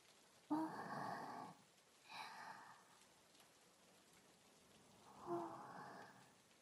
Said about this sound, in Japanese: 雨、降ってるのに。